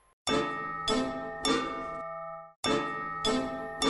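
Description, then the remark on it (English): A bright electronic ringtone, Sound 4 on the Pro range, plays alone: three ringing chord stabs, then a softer held chord in a shifted harmony, an East European chord change, before the pattern starts over. “Well, it's an East European chord change.”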